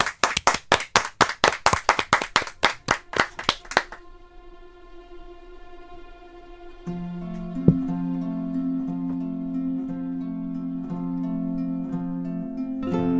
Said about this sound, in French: Applaudissements en live pour vous sur Chéri FM.